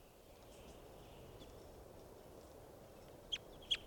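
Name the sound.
bird call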